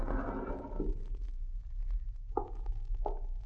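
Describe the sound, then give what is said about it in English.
A wooden desk drawer scrapes open over low background rumble, followed by two short, resonant knocks and scrapes about half a second apart, moderately loud, with no voices. “I got it right here in this desk drawer.”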